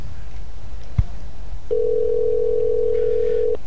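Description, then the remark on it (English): A click, then a steady mid-pitched telephone ringing tone holds for about two seconds as a call is placed to bring a guest onto a show, over a low background hum with no one talking. “Two rings.”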